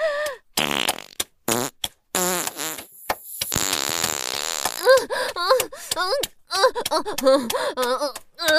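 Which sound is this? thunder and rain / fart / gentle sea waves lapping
fart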